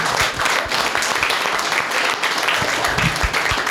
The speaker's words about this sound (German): Und wenn wir schon bei der Dankesrunde sind, dann müssen wir auch mal einen ganz fetten Applaus geben für die Leute, die hinten das Essen gemacht haben, die eure Zimmer putzen und die das ja alles auf die Beine gestellt haben.